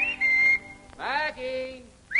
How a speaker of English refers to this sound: Ain't no use whistling around here, Mr. Pete. That sound belongs in the day that is gone.